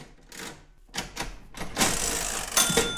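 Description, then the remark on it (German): A mechanical cash register on a shop counter, one that could also print receipts, clatters: a few sharp key clacks, then a longer rattling, ratcheting whir that grows louder toward the end, with no voices. “Die Kasse ja auf dem Ladentisch sieht toll aus. Das ist eine Registrierkasse.”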